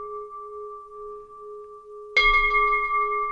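A Buddhist ritual bell hums with a steady, sustained ring, then is struck again partway through, producing a bright, clear strike that rings on. No voices are heard.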